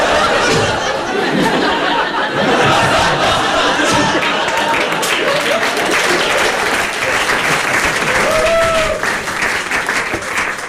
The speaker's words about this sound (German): Du betrittst eine Bühne und fängst an, etwas Lustiges zu erzählen. Das Publikum hört dir zu, lacht und applaudiert.